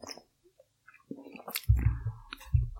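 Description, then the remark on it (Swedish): Quiet sips of Rapsgate IPA beer with soft slurping and swallowing, scattered clicks and a couple of low thuds, like a glass or bottle being set down, with no talking. “Vi kan börja med att ta en klunk av Rapsgate IPA.”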